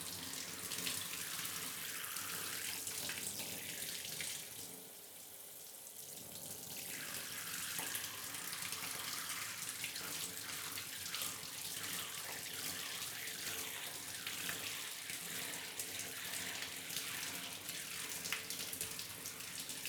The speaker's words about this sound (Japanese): よし、じゃあシャワーで流すから、まだ目はつぶったままでいて。熱くない？うん、じゃあこれくらいで泡を全部流します。